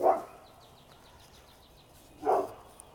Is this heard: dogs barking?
yes